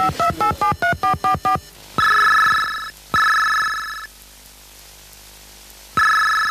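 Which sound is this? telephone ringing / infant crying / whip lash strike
telephone ringing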